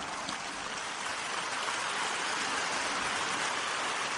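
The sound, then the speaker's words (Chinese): Sustained applause from a crowd, a dense, even crackle of many hands clapping that holds steady at a moderate level throughout, with no voices rising above it. “台长就是想让你们鼓掌不要停下来，所以我才说谢谢大家。”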